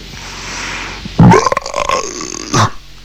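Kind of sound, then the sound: human body sound, loud belch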